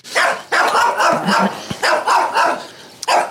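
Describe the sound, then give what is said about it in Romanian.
One of two chained Pekingese dogs, Valera and Stefano, barks repeatedly at a rural homestead in a quick, uneven series of sharp, fairly loud yaps, with short gaps between bursts and no talking. “Valera și Stefano, doi pichineji, sunt pe lanț.”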